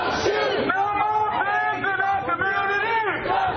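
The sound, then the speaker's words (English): A large crowd of protesters marching in Santa Cruz toward the police station chants together, many voices shouting rising and falling slogans in unison such as "No justice, no peace", "Hands up, don't shoot" and "No more pigs in our community", loud and continuous over a rumbling background of crowd noise. “And now they're approaching the police station, because even though the march was originally supposed to be very tame and walk to the Resource Center for Nonviolence”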